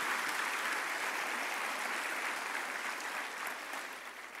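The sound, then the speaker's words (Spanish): A crowd claps steadily in a dense wash of applause that holds for several seconds, then fades slightly toward the end, with no voices standing out. “Vamos a dar un aplauso.”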